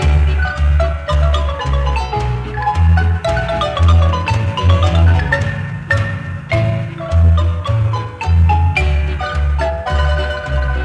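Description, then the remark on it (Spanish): A lively, well-known Guatemalan melody played on marimba, with bright struck notes in quick rhythmic runs over a steady, booming low bass pattern, loud and continuous throughout. “Esta conocida melodía en marimba es familiar a todo guatemalteco, pero para los quetzaltecos es aún más.”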